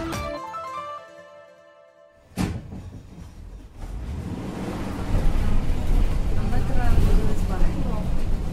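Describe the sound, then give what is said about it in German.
A bus engine strains with a deep, heavy rumble that grows louder and rougher toward the end, following a sharp clunk. A voice or radio is heard briefly at the start. “Oh Gott, der Bus leidet richtig.”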